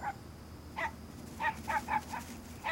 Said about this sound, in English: What's that? A dog? Yeah. You called it, dude.